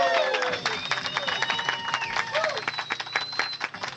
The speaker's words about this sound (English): Apparently, we have 3 seconds to break, so we're going to take that commercial break. But not before we get our big round of applause. Give it up.